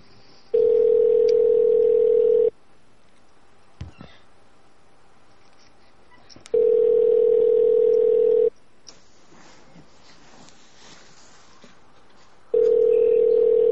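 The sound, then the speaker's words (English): A phone call rings out with a steady electronic ringback tone before being answered: three long two-second buzzes separated by quiet gaps of about four seconds, clear, with no one talking. “Please leave your name and number. Try again.”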